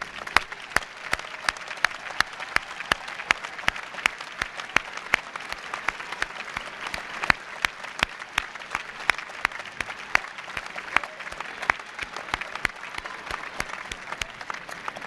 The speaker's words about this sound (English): I now invite the family members of our graduates to stand so that we may recognize and applaud you for your support and encouragement which you have given these graduates throughout their academic career.